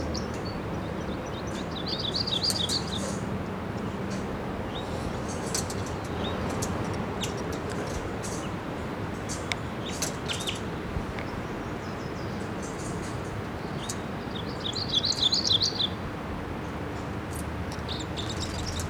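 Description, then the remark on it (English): At least two or three birds chirp and call over a steady low rumble of background noise, with bright high-pitched bursts of song clustering near the start and again toward the end. “Well, there's more than one bird here. Maybe at least two or three.”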